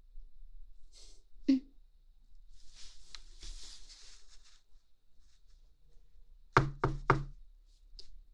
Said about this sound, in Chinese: 弟弟，是有人敲门吗？开门去！谁呀？是快递员吗？